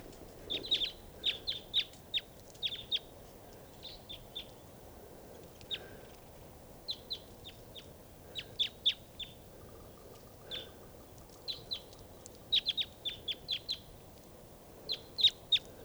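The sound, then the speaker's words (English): Red crossbills, likely type 2, a big flock foraging on cones in the trees at a campsite, give repeated sharp, high kip calls in irregular bursts and clusters throughout, several birds overlapping, above a faint low background rumble. No one speaks. “There's some crossbills right here in the trees at the campsite. I think they're type 2s, foraging on cones in the trees.”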